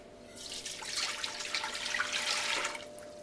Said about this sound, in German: Und dann in gleicher Menge Anteile Wasser dazu. Das Wasser.